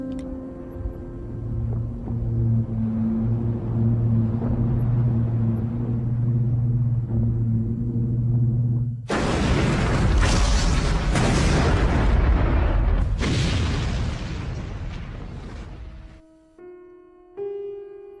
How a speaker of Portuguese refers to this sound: No meio dos ecos da explosão, 1900 mergulhou no mar, na companhia do seu único lar, o Cruz Virginia.